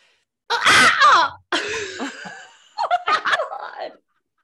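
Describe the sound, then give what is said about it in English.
A person imitates a bird call with three loud, strained vocal bursts, each squawky and rising and falling in pitch, separated by brief pauses. “I don't want to give away my bird call before I do it.”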